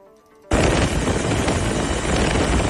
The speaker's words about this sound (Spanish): Al tener difícil acceso a pie, los bomberos movilizaban al grupo especial de rescate en montaña. Con su helicóptero acceden a la excursionista y la sacan con grúa para trasladarla a su parque en San Vicente y de ahí al hospital.